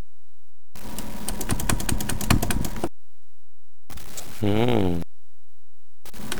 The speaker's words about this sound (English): I hear you clicking.